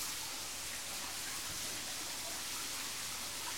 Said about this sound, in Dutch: Je hoort het water weer lopen.